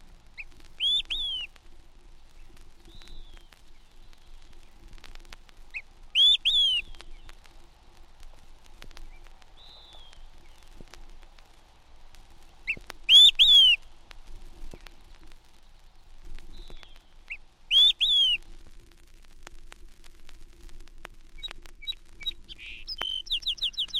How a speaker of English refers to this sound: Quick, three beers, calls an olive-sided flycatcher from the top of a spruce in the Riding Mountains.